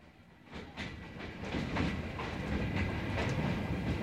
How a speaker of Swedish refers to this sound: Sen tar vi tåget till Kap. Först ut ur Johannesburgs ändlösa kåkstäder. Resan är lång. Vi har sovkupé.